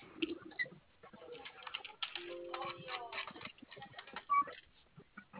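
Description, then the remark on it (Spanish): Rapid, uneven keyboard typing clatters in a quick run of clicks and taps, with a faint tonal beep and soft background murmur. “¿Tu teclado prende? Sí, está prendido ahorita. Abre ingreso 5656, por favor.”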